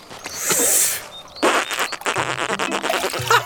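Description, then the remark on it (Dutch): A loud breathy whoosh of someone blowing into the sail of a small toy sailboat, followed by a buzzy, sputtering, fart-like flapping sound that rises and falls in short pulses, with no talking. “Oké, ik blaas in het zeil. Ja, daar komt-ie.”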